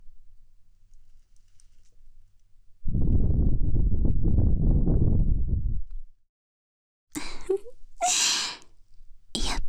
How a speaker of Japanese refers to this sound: 先生の魔法の吐息、気持ちいい？